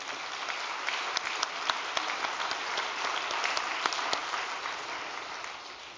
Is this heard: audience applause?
yes